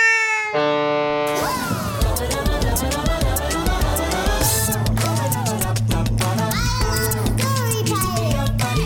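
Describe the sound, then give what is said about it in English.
A cat in a bag meows repeatedly, with rising and falling cries that sound fairly loud, over a dense, bustling background of other noise, opening with a sustained tonal sound. “Great, now the cat's back in the bag. Can someone... Does anybody... who left the cat near this bag?”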